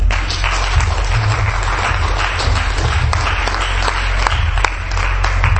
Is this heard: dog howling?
no